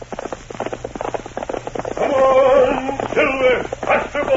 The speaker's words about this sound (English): From out of the past and the thundering hoofbeats of the great horse Silver, the Lone Ranger rides again.